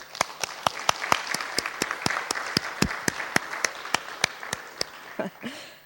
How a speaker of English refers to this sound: So today, I want to take a moment to honour my mother and all the mums here today. Would you join me and put your hands together and clap and honour all the mothers here today?